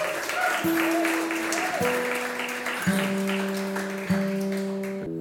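A crowd applauds steadily throughout, a dense wash of clapping, while sustained organ-like notes step upward in pitch over it, one held tone after another.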